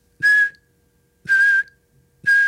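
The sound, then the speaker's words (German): Three short, loud blasts on a shrill whistle blown by a drill instructor, evenly spaced about a second apart, each sharp and clear with brief silence between; each blast signals recruits lying on the ground to do a jackknife sit-up. “Bei jedem Pfiff ein Klappmesser.”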